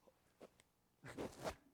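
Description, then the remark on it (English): Soft paper crinkling and page rustling: a couple of brief, faint rustles, then a louder, longer crackly shuffle of sheets near the end, with no voices. “I don't hear any sounds except the wrinkling of paper.”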